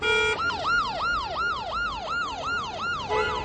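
An ambulance siren wails in rapid, repeating yelps, loud, as the ambulance tries to squeeze through congested, bumper-to-bumper traffic in Prague, over a steady low rumble of road traffic.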